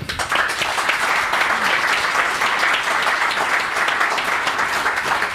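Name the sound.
audience clapping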